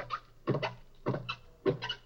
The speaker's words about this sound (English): you hear it's got a whole structure. It's a solo performance. It doesn't interact with what other whales are doing. It's just a complete song. Ah, the third theme. Bloop, bloop, bloop. One whale singing an entire organized song.